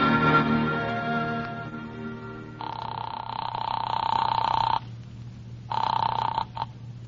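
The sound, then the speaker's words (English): A telephone at a newspaper city desk rings twice, a long, loud ring followed after a short pause by a briefer one, with a fading musical tone and steady low hum beneath. “Oh, I'm glad you answered the phone.”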